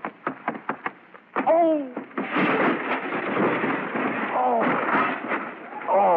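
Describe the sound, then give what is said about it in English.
A few sharp knocks, then a table with dishes goes over during an attempted backflip cartwheel, with a loud, sustained crash and clatter of dishes lasting several seconds, broken by brief vocal cries. “You've upset the whole table.”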